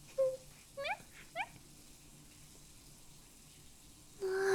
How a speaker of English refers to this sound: It's filling up so fast, sir. And the water's just like... warm and nice.